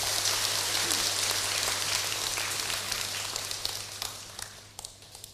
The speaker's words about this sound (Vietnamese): Thay mặt tăng đoàn chùa Giác Ngộ, thầy kính chào mừng các thiện nam tín nữ trên 500 người chính thức trở thành thành viên của cộng đồng Phật giáo thế giới và cộng đồng Phật giáo Việt Nam, cho một tràng vỗ tay thật lớn.